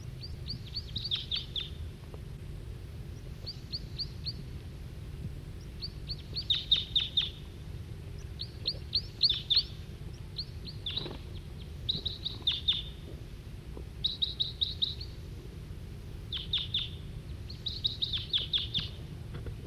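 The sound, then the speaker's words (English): A male wild bird sings in repeated short bursts of high, bright chirping notes, phrase after phrase with brief pauses, over a steady low hum of background noise. “Still pointing at the male who's giving song.”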